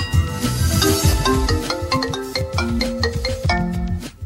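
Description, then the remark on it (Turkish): A mobile phone ringtone plays a bright, stepping electronic melody over a steady thumping beat, loud, running continuously for about four seconds before cutting off. “1973 yılında icat edilen bu nesne cep telefonu.”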